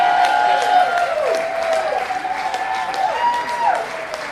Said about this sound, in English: Let's give them all a round of applause, y'all.